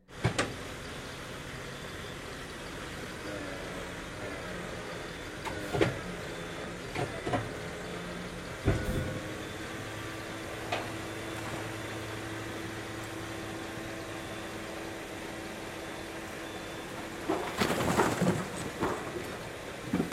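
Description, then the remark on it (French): A machine's articulated arm creaks and groans over a steady mechanical hum, with scattered clanks and knocks, a long drawn-out squealing tone, and a louder rattling burst near the end. “grincement d'une machine, d'un bras articulé.”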